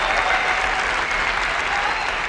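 A large crowd applauds loudly and steadily as Steve Jobs announces the iPhone 3G at its launch, a dense wash of clapping filling the whole stretch, with a few excited shouts and whoops rising above it.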